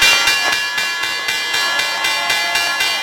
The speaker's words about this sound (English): And while it's not the same as it was decades ago, you can still feel the energy peak every morning at 9:30 sharp, when the bell signals the opening of the market.